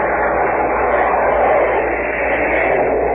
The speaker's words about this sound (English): George Hicks covered the Normandy landing. All planes are going overhead.